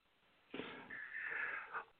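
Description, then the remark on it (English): A single sneeze bursts in with a sharp, breathy onset, then trails into a longer wheezy, tonal exhale before cutting off. It is moderately loud, with no talking. “Bless you.”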